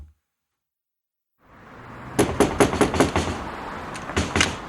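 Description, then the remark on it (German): A rapid burst of about half a dozen sharp knocks on a locked door, then a short pause and two more raps, fairly loud over a quiet hiss. “Mal schön, warum ist die Tür zu? Ist zu? Ist abgeschlossen. Ach Quatsch. Doch, geht nie auf. Quatsch. Klopf's mal am Fenster. Ich hab mir auch geklopft.”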